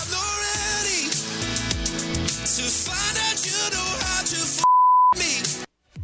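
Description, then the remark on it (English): Loud pop music plays, then cuts out for a single steady, high-pitched censor bleep lasting about half a second before the song briefly resumes and drops to silence. “And that my brain takes it there every time, every beep.”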